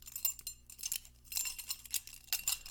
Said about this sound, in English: I saw that a couple people just recently put in some feedback of the chain sounds that you'll usually hear in an audio. That would be this. This is a charm I wear. I will not be wearing it to record in the future, because yes, it is distracting.